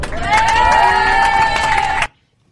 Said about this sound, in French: Et merci à vous aussi, parce que sans vous aussi, vous avez participé aussi au bon déroulement du voyage, donc vous pouvez aussi vous applaudir.